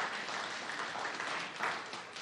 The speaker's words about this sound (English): You can clap for that. That's okay.